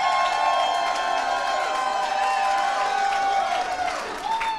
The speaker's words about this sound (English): Back on stage again. We're going to do an applause-o-meter.